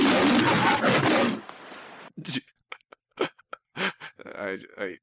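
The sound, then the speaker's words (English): A woman lets out a loud, raspy, animal-like roar that lasts just over a second, followed by a pause and then short, broken bursts of voice. “I think the last time that, what episode was that … went and made some animalistic noise”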